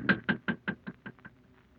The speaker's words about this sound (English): Shall we knock? Yes, we shall knock.